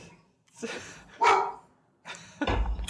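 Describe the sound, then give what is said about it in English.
A dog barks in a few sharp bursts, with a loud bark in the middle and another rough, low-heavy bark at the end, separated by brief pauses. “Even your dog is like bullshit.”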